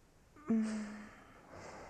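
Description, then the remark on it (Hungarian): One drawn-out yawn: a sudden low voiced groan that holds steady for about half a second, then trails off into a soft, breathy exhale. No one speaks. “Most ásítasz is.”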